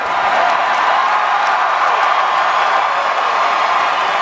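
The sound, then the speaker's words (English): A large crowd at a Stanley Cup championship celebration cheers and roars steadily throughout, a dense continuous wall of loud voices with scattered whoops and clapping, no distinct speech standing out. “You know, they could have got up there and said anything, and the crowd would have gone nuts. And they kind of did.”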